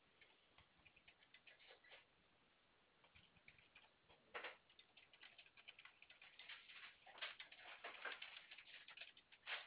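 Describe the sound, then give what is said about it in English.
Irregular, rapid clicking of computer keys as someone types out a customer's information during a phone call, bursts of light taps with brief pauses, quiet and bright with no voices. “I'm just typing this information out, so please bear with me.”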